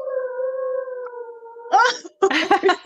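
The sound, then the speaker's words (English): A dog in a rural area gives a long, steady howl lasting over a second, then breaks into a few rough, yelping bursts, with no siren present. No one speaks. “Sympathetic howling in the background.”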